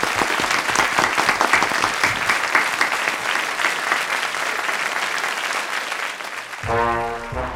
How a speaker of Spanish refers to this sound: Y os despedimos como debéis, con un fuerte aplauso.